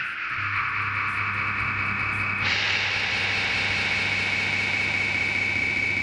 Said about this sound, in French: On a l'impression même à un moment qu'il pourrait rester uniquement la réverbération de la voix, juste son souffle, un peu comme ça.